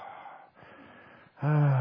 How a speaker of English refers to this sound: you're breathing in, just nice and beautiful. Oh, yeah. Oh, breathing in. Oh, yeah, I can do this all afternoon.